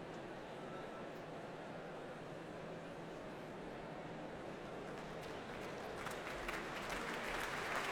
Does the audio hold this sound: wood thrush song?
no